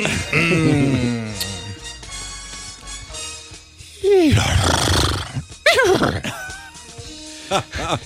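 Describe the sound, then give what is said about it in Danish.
A man's voice imitates a horse neighing, with a long, wavering whinny followed by several shorter, rough bursts, loud, broken by brief pauses. “Jeg mestrer ikke vrinske som dig.”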